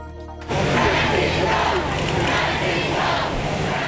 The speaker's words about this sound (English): Pope Francis was greeted on arrival in the United States by chanting and cheering enthusiastic crowds and President Obama as he arrived Tuesday after 3 days in Cuba,